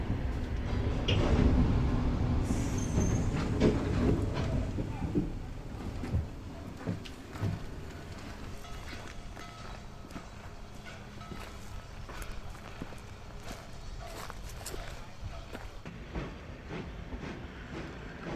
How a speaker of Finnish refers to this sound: Juna jatkoi matkaansa Heinolaan.